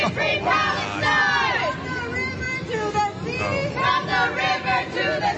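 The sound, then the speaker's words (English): A loud pro-Palestinian street protest crowd chants "Free Palestine" together, many raised voices surging in rhythmic bursts with shouted, sustained syllables over a steady background of crowd noise. “The protest continues on the street.”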